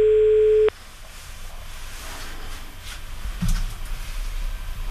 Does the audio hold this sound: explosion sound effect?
no